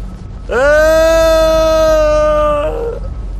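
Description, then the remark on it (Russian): A person falling toward the ground screams: a single loud, sustained scream held at a steady pitch for about two seconds, then cutting off abruptly into a brief trailing breathy sound. “Уже не сдерживаясь, кричу, наблюдая последние метры сближения.”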